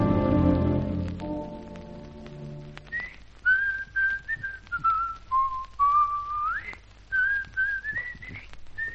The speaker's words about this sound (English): In fact, if you recognized it, I was whistling your theme song.